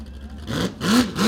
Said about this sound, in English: Listen to that power. That's the good old-fashioned lake jet boat right there, ladies and gentlemen. One of the old-style hot boats with jet propulsion can do a rooster tail for 30 or 40 feet.